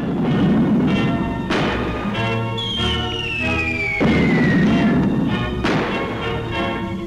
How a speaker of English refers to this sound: The flames of war eat at the heart of Manchester. In one of the fiercest raids of the German Blitzkrieg on Britain, a storm of bombs wreaks havoc in this proud city.